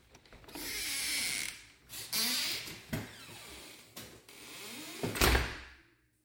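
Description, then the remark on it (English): A small sliding door to a tool room in a house rolls along its track with a rough, hissing rumble, is pushed back the other way, and knocks shut with several sharp thuds; no voices. “Little sliding door here that goes to a tool room.”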